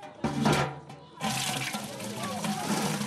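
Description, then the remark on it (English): Water gushes steadily from a free village tap fed by a merry-go-round play pump that draws water from an underground well into an elevated storage tank, a broad hissing splash that briefly eases and then returns at full strength, with faint background voices. “It all flows to a free tap for this community of 1,000 people.”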